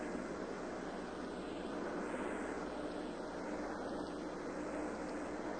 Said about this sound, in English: The helicopter is now hovering a little bit upwind, and the net remains in just about that same position. It has not been dropped all the way down yet, and we can see several figures standing in the doorway.